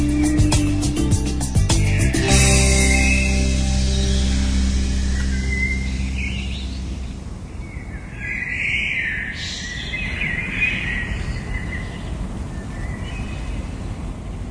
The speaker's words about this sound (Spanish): El sonido del bosque, el sonido de las aves, los pajaritos, el sonido de la naturaleza, el sonido del campo.